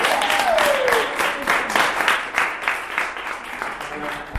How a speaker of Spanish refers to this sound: Muchísimas gracias, de verdad, y un aplauso a todas, porque lo hemos hecho en tiempo récord, además.